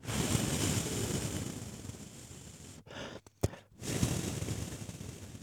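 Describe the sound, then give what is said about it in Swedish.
Steady whoosh of breath being blown onto the back of a hand, a soft rushing hiss that briefly breaks off into a few short puffs before the airflow resumes. No one speaks. “Ja, nu blåser jag här.”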